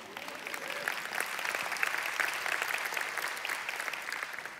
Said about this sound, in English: If you have Jesus in you, then you have God in you and with you. Yes, you can applaud for that.